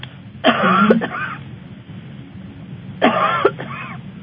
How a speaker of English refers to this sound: cough for me. Do what? Cough. Oh, cough.